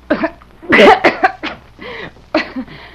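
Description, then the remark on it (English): A woman coughs in a harsh fit of several bursts, with a raspy, strained throat sound between them. No one speaks. “My voice just won't behave when I feel a cough coming on.”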